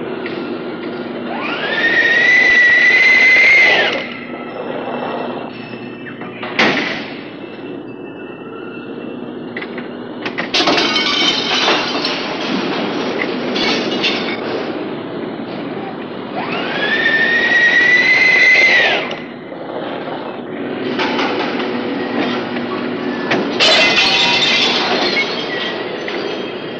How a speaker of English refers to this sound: the tinkling crash as end trimmings fall into iron baskets for later remelting